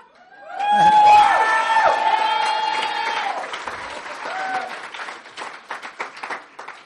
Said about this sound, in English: I came in and sat down. You came in and sat down. And you all yelled Icky. And I thought, what the hell do they mean Icky? I haven't opened my mouth yet.